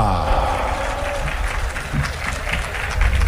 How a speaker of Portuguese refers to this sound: Vamos chamar a penúltima dupla da grande final. Vamos receber com aplausos